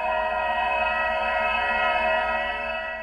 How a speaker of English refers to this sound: And here's the AVAS sound from a Nissan Leaf.